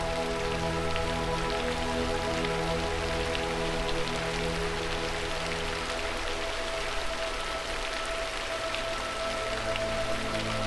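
Steady rain patters across hard surfaces, a dense, even wash of countless drops with a low continuous hum underneath, no voices present.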